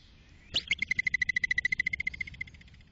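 A woodchuck's (groundhog's) whistling alarm call, made when scared to warn others: a sharp, high whistle followed by a fast, even train of about twenty shrill, buzzy chirps that gradually fade, with no voices.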